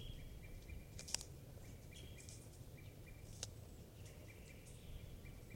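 bird, wild birds calling

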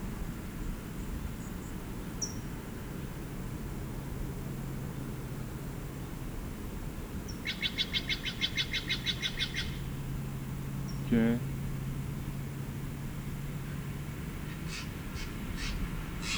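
bird, bird singing

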